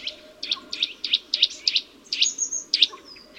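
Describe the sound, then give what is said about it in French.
A small blue tree-climbing bird, moving head-down along an oak trunk and gripping the bark with its claws, repeats an insistent, high twittering call, about ten quick bright notes in a steady rhythm, clear over a faint low background hum. “Ses fortes griffes lui permettent de se retenir à l'écorce pour réaliser ses étranges mouvements tout en émettant un gazouillement très insistant.”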